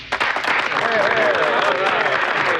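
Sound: round of applause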